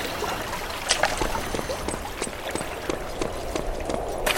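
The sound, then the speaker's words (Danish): Steady rushing water flows continuously in a video game, a broad hissy stream with scattered soft splashes and clicks rising over it at irregular moments, moderately loud, with no voices. “Nu er vandet lidt mere til venstre for os.”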